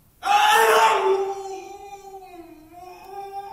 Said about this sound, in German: Und wenn er schreit, setzt man ihm die sogenannte Autenrietsche Maske auf. Da ist er kaum noch zu hören.